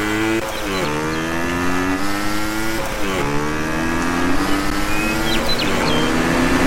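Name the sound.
car driving past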